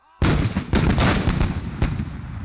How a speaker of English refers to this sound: Shouted Sean back through the booms of the guns.